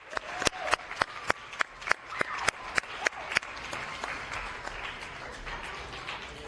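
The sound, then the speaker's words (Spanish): Studio audience applause for female guests: a steady run of sharp, evenly spaced claps stands out over a noisy crowd wash for about three seconds, then the clapping continues as a softer, blended patter. No one speaks. “Venga ese aplauso para ellas, que se lo merecen, pero bien, además.”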